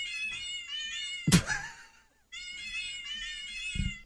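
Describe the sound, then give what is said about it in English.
A newly downloaded cat piano app is played to perform a song, giving a run of tuned meow notes, broken by one sharp, louder yowl that slides downward, then more meowing notes follow. The sound is clear, with no talking. “I just downloaded a cat piano so I could play … by …”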